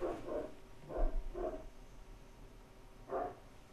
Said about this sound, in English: I have a dog barking next door. That's great. Isn't that the new world of the podcast? You gotta have a goddamn dog barking, right?